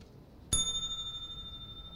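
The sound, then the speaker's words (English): A single bright desk bell ding, rung to signal that the time for a section is up, strikes sharply and rings on with a clear, sustained metallic tone that slowly fades, heard alone against a quiet background. “So when the time for a particular section is up, we'll hear this sound, a desk bell.”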